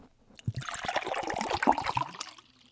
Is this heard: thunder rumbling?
no